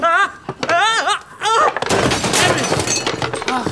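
A wavering shout of alarm gives way to a loud crash as a glass display case holding a trout, hung high up, falls and shatters, followed by a sustained, bright clatter of breaking glass and tinkling shards.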